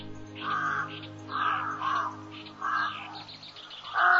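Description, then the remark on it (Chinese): A flock of crows that has landed in Gongye Chang's courtyard caws at him, about five harsh, raspy caws repeating in quick succession, fairly loud, over a faint steady low hum in the background. “有一天，有一群乌鸦飞来，落在了公冶长家的院子里。乌鸦冲着公冶长哇哇地叫了起来。”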